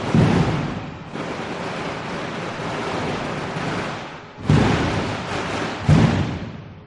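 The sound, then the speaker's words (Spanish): A traca firecracker string goes off as the Virgin is carried out of the church to start a procession to Peñarroya castle, a dense, continuous crackling roar, punctuated by a few heavier booms at the start and again near the end, with no voices. “La traca que indica que ha salido la Virgen, ¿no es así, alcalde?”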